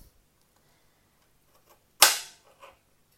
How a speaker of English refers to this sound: Nearly done the second one. This is a bit bigger, this carrot. They're not huge. I do need to get some new knives. I might pause this in a minute while I do the other two carrots, just so you're not just listening to me chopping.